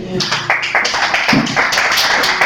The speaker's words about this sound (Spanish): Venga, un aplauso, hombre.